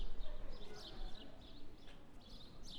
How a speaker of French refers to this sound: On entend les quelques oiseaux.